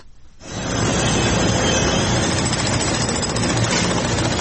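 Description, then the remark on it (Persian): The heavy machinery and tools of rescue workers in northern Syria and southern Turkey rumble steadily after a quick fade-in, a loud, continuous low drone with mechanical vibration that stays constant throughout, with no voices. “تقریبا 5 شبانه روز است که صدای ماشینالات و ابزار نیروهای امدادرسان در شمال سوریه و جنوب ترکیه قطع نمی شود.”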